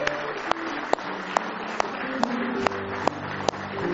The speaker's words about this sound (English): Give me one big hand clap of praise tonight if you love Him.